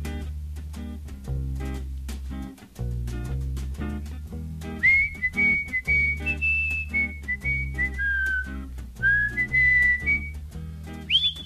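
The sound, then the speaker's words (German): A man whistles a lilting melody over a musical backing, the clear high notes sliding and dipping for several seconds after a short instrumental opening. “Wir haben es eigentlich von einem weniger fröhlichen Thema, obwohl er da pfeift.”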